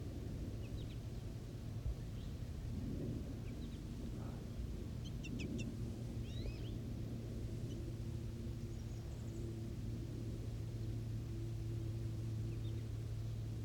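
birds

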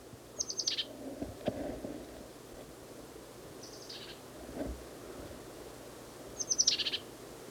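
bird calling

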